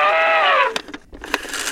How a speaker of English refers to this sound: The elephant says...